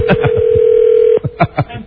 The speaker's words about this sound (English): Oh, so there's my phone ringing. That is the Batman ring.